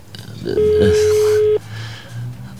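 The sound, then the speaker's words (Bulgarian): A single long ringback tone from a phone call sounds for about a second, a steady electronic beep that stops unanswered, with low murmuring noise around it. “Ни Григор, ни Георги стига телефона. Затваряме този телефон.”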